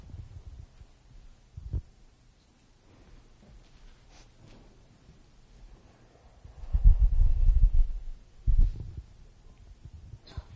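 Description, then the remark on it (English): A person's muffled, low heartbeat thumps through a quiet background, with isolated beats early on and a louder, denser stretch of throbbing pulses near the end. No one speaks. “And we've demonstrated that people demonstrate higher levels of intimacy subsequently when you get to see the heartbeat than when not.”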